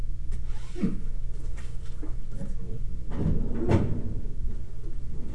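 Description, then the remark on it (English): A bottom drawer slides and shuts with a wooden thud, followed by a second rattling push closed, over a steady low background hum. “Closed in the bottom drawer, closed drawer.”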